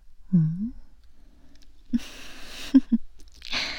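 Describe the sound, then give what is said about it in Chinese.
Wet chewing and mouth sounds of someone nibbling an ear, with a few distinct smacks and a crackly, moist noise, and nobody speaking. “小骚蛇嚼嚼耳朵，就这么受不了啊？”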